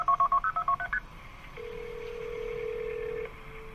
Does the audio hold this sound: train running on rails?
no